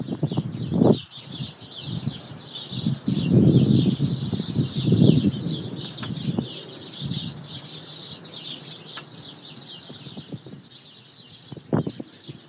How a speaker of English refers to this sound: Should we have a little listen to Clive's sparrows?